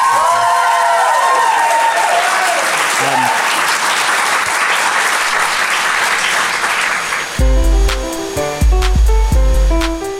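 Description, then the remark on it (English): A crowd claps loudly and steadily for the guests with some cheering and whoops for about seven seconds, then bright, bouncy music cuts in and plays to the end. “Please, a round of applause for these.”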